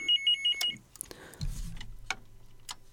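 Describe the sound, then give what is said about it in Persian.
A telephone rings as a listener's call from Afghanistan comes in to the radio station Radio Sedaye Zindagi, with a quick burst of four bright electronic trills at the start, followed by soft clatter and a low rumble with a few sharp clicks. “بازم تلفن است.”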